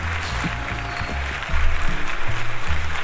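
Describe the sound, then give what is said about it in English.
A clapping sound effect played from a sound effects button: a burst of applause, a dense, steady patter of many hands clapping for about three seconds, with low rumbling tones underneath that swell slightly toward the end. “If I could find my sound effects button, I'd give us some clapping.”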